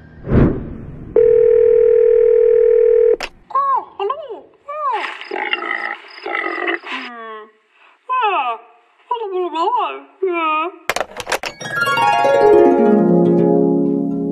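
A loud, steady telephone dial tone hums for about two seconds as a call is placed to the Museum für Naturkunde Berlin, then cuts off into a run of warbling, chirping sound effects and a final descending sweep.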